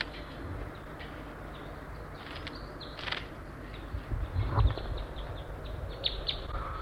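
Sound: several birds calling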